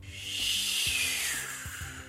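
Strong wind blows in a steady, loud, hissing rush that swells and eases slightly, with a few soft low thumps underneath and no voices.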